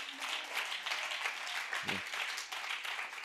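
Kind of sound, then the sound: crowd, audience clapping hands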